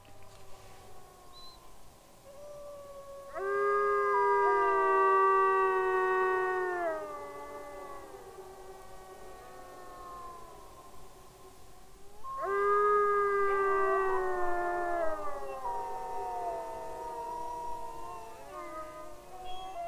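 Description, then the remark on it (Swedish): A wolf family, recorded in autumn in eastern Finland by Agne Säterberg, howls together in two long chorus bouts, several voices rising and falling in overlapping wavering tones, with quieter howls trailing between them. No one speaks. “Den här vargfamiljen spelades in i höstas i östra Finland av Agne Säterberg, och vår reporter Thomas Öberg, han var också med vid det här tillfället.”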